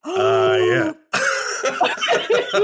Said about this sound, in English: I'm terribly sorry to cough into the microphone